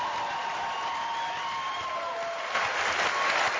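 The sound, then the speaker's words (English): An audience at a meeting gives another round of applause to the host committee, steady, dense clapping that swells a little louder toward the end, with no voices standing out over it. “Before I read how it works, I just think we should give another round of applause to the host committee, doing an awesome job bringing this whole thing together.”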